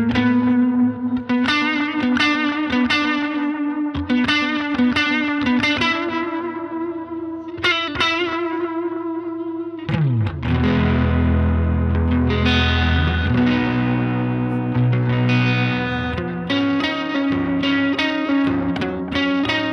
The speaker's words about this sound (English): Let's hear the neck pickup. You got to play the neck pickup.